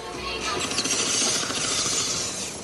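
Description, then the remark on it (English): A busy traffic jam in Kampala, Uganda: a dense, continuous roar of street noise with rattling, clattering mechanical textures layered through it, steady and fairly loud throughout, with no clear voices. “Like so many homecomings in Africa, our journey begins with a traffic jam in some capital city.”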